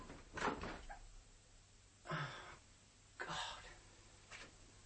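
household object, door being opened

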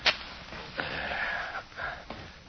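household object, match being struck

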